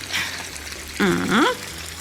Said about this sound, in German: So, jetzt geben wir so viel Wasser in den Topf, dass die Früchte gut bedeckt sind.